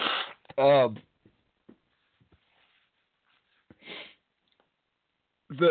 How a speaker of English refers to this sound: Okay, well, I've got the sniffles here.